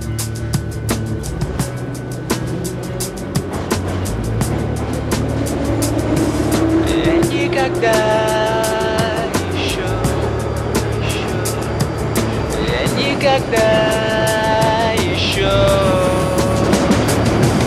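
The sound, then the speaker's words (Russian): A metro train pulls away toward Kantemirovskaya station and runs at speed: a steady low rumble with an electric motor whine that rises in pitch, then high whistling tones as it accelerates, continuous. “Еще не выходил на этой станции метро, хотя меня где только не катал подземного локомотива Крот.”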